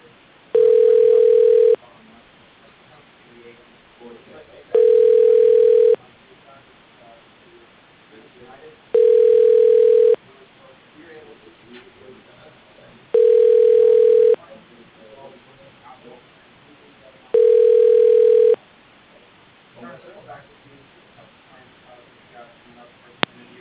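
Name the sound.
telephone ringing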